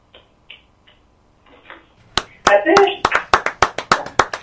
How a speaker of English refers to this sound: You said the end in the middle of the poem. We started clapping and we're like, oh, wait, that's not the end.